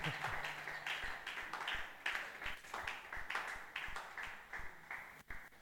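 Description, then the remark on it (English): A crowd claps steadily together for Jesus, the dense hand claps filling the space at a fairly quick rhythm, with a faint low tone lingering underneath at the start. “Acclame pour Jésus. Clap for Jesus.”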